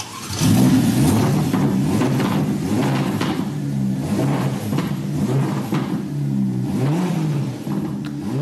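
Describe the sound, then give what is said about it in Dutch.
The 3.9-litre, 620 hp V8 engine of a Roma Spider with its roof open revs hard, its deep burbling growl rising and falling in pitch through several throttle blips, loud and steady throughout with no talking. “Nou, hey, dakje open. En dan hoor je die V8 ook veel en veel beter.”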